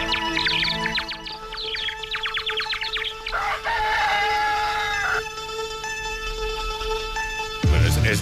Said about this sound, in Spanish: Eso es un gallo que canta.